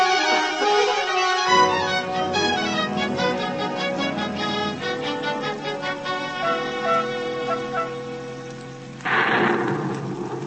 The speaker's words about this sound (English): It's hard to see through the rain.